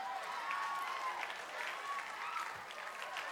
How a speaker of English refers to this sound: He said, clap your hands, all of you nations.